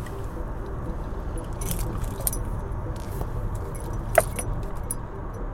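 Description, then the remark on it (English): Keys jingle in short bursts over a steady low car rumble, followed by one sharp click as someone gets into a car. No one speaks. “So I jump in the car, try to get there in time.”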